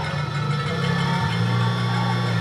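Heavy vehicle engines of police vans, an excavator with a battering ram and an armored clearance vehicle idle in front of a house being cleared at dusk, with a steady deep, droning rumble and dense harmonic hum; the low pitch shifts slightly partway through, holding at constant loudness with no voices.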